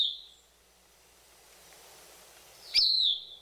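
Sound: thrush song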